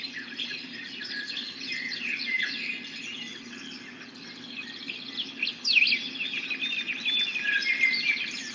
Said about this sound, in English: Let me turn on a sound that we can play with. Let's see. Here's some bird sounds. Let's listen to the birds for a moment. Can you guys hear the birdies?